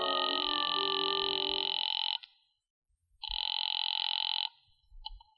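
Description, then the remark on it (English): A telephone rings on the line as a call is placed from a phone booth to the Cafe Tambourine: two long, steady, buzzy ring tones separated by a silent pause, the second one shorter, followed by a faint click. “I waited around the lobby for a while, then stepped into a phone booth and called the tambourine.”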